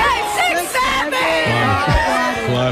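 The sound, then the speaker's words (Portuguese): Players of a women's national football team shout together in a loud, overlapping chant while making a hand gesture, far from the microphones; rising and falling pitches blend into a lively chorus that carries on steadily for a few seconds. “Mas enquanto faziam um gesto com as mãos, era isto que as jogadoras da seleção gritavam.”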